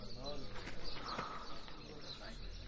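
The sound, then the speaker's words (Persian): Birds chirp and coo steadily, with indistinct voices and a low hum in the background, the calls moderately loud throughout. “دوست داری مثل این پرنده ها پرواز کنی و از اینجا بری بیرون.”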